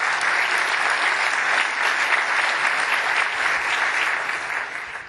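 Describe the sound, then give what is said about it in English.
Sustained audience applause for the organizers at a conference session in Amsterdam, dense steady clapping that holds strong for several seconds before tapering slightly at the end, with no voices on top. “Go ahead and get a good round of applause for all the people at TE 12, all the organizers.”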